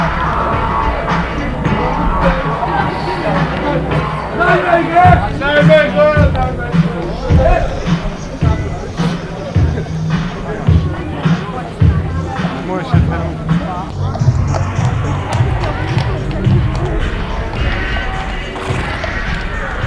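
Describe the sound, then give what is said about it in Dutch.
A large crowd of demonstrators on the move outdoors near the Dutch-German border, starting to walk again after speeches held about 100 meters before the border: a steady wash of many voices and shuffling footsteps, with scattered thumps and knocks, continuous throughout. “Dat waren de toespraken ongeveer 100 meter voor de grens. Dan stonden we stil. Dus ik neem aan dat het nou alweer gaat lopen.”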